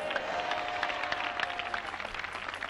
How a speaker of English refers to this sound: That one is village clapping. If Yenegua is going to clap, give a clap offering to the Lord.